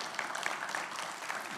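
An audience claps steadily after a video appeal to end child homelessness, a dense, continuous patter with a few scattered cheers rising above it. The applause holds an even level throughout the short stretch, and no one speaks.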